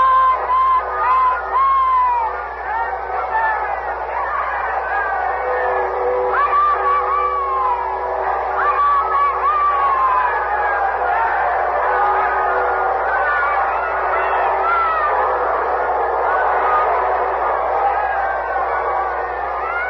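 A large crowd crushing against the gates of Windsor Castle shouts and calls out continuously for a view of Queen Elizabeth, many voices overlapping into a dense, steady roar that holds at a fairly even loudness for the whole stretch, slightly muffled.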